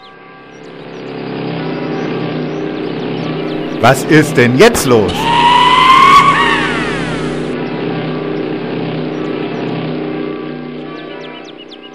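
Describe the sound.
Motorcycle engines drone steadily in Warmensteinach, then a quick series of sharp revs bursts out and a rising engine whine swells before settling back, while people talk over the noise.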